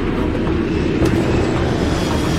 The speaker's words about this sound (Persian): هواپیما میشینه رو زمین. تایلند، نمای بانکوک از بالا.